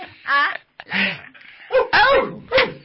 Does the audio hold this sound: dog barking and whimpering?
yes